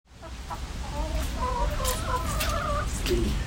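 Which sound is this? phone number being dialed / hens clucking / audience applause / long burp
hens clucking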